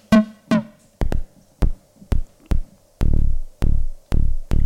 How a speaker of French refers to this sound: Un peu bas, attention à tes oreilles. Un petit peu trop de distorsion quand même. Voilà, là il est joli. Ah ouais, il est fat. Voilà, donc là j'ai placé mon kick.